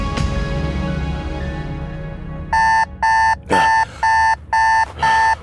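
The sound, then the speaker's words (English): An alarm clock rings in loud, evenly spaced electronic beeps, six bursts in quick rhythm, after a low rumbling background and a brief click. “When my alarm woke me the next morning, I found her lying beside me wide awake.”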